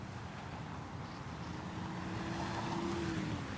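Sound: car driving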